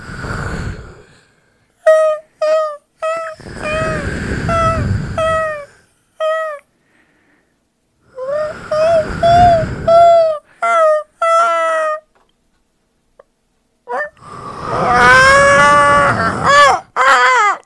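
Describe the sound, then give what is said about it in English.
Voices imitate seagulls and ocean waves: repeated high, wavering gull-like cries over loud, rushing whooshes of surf that swell and fade in several long bursts, with short pauses between. “And with that, we send you away with the subtle sounds of seagulls and the ocean.”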